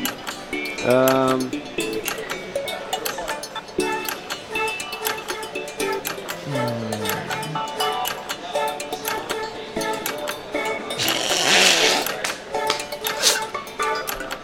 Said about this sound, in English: Bless you.